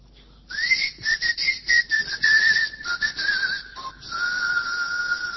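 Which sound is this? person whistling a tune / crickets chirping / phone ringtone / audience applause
person whistling a tune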